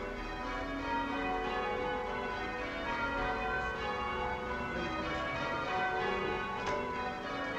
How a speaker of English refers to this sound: We're just next to the cathedral here in Bury St. Edmund, and I promised you that we would have bells. And we have bells. Just listen to this.